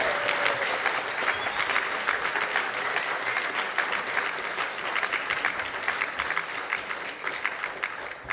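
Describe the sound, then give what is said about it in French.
An audience at a church service claps steadily for several seconds, a dense, even patter of many hands at a fairly constant loudness, with no voices rising above it. “On peut l'applaudir également.”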